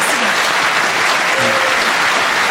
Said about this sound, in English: I think you need a round of applause for that.